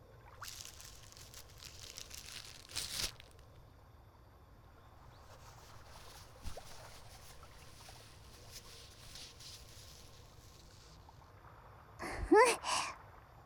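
Soft rustling and rubbing of tissue paper wiping an ear pick, a steady papery scrape with a couple of louder crinkling bursts, and no one speaking.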